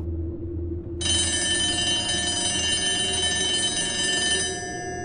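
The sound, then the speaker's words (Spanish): An office telephone rings with a bright, metallic bell tone that starts abruptly and holds steadily for about three and a half seconds, then fades out over a constant low hum. “Lo que sonó fue el teléfono de la oficina.”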